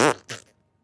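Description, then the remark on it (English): A loud mouth-made fart noise: a buzzy, sputtering burst followed by a shorter second raspberry that trails off, then silence. “Should we make fart noises?”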